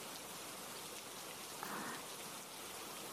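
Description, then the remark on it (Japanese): Steady rain falls from heavy rain clouds in a continuous, even hiss, with dense pattering on a surface and no voices. “とは言ってみたものの、雨雲で昼か夜かもわかりませんね。”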